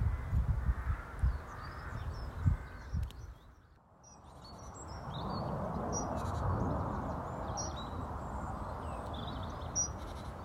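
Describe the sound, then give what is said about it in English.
Lively birdsong fills the air at Rodley Nature Reserve by the River Aire, with spring approaching, in loud, repeated bright chirps and calls, while a steady low rumble of a plane flying overhead rises underneath after a brief lull. “Even though a plane is just flying overhead, the birds are drowning it out. They're definitely in full voice today.”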